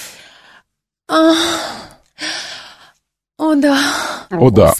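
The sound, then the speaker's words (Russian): A voice imitates heavy breathing: four loud, drawn-out huffs with a raspy, partly voiced edge, separated by brief silent pauses. “Кто там так дышит?”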